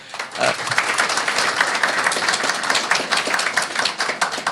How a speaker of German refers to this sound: Und der Nordpol hat sich sehr viel Mühe gegeben. Dafür auch nochmal Applaus an den Nordpol.